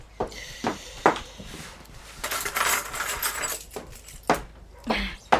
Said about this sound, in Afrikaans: Ek kry gou die sleutels.